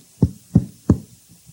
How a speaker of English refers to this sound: You have the housekeepers knocking at your door?